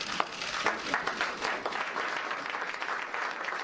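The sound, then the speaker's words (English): A crowd applauds steadily, a dense wash of many hands clapping at an even, moderate loudness for several seconds, with a few sharper claps standing out near the start. “He loves it when they clap for him.”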